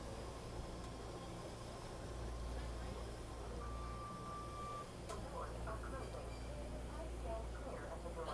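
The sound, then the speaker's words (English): Steady low rumble and hum of a moving commuter train, heard from inside the carriage during a daily commute, with a brief electronic tone partway through and faint muffled voices in the background. “I know you guys have nothing better to do than listen to train noises, but there will come a day when, God help me, I won't be doing this commute any longer.”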